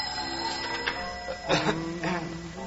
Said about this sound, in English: Oh, excuse me. There's the bar phone.